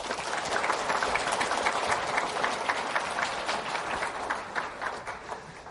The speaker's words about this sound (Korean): 생각하면 생각할수록 우리는 참 형편없고 또 허물투성이인데 그럼에도 불구하고 우리를 내치지 않고 올 1년 동안도 우리를 인도해 주신 삼위일체 되신 하나님께 먼저 우리 감사와 찬송의 박수를 올려드릴까요?